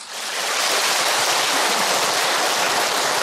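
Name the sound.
audience applause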